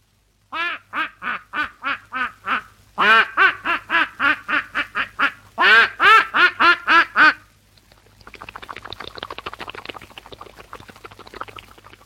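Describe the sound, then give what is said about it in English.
A person imitates a duck going into the water with three loud bursts of rapid, nasal quacks, then a soft, steady splashing hiss suggesting water, all clear with no talking. “My first imitation will be a duck going in the water.”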